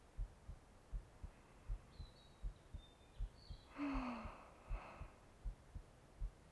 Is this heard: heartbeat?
yes